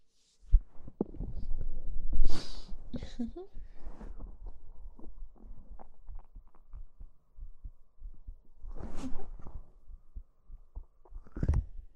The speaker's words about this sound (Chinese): 有没有听到主人心跳的声音呢？嗯，好不好听啊？嗯， 听得不清楚是吗？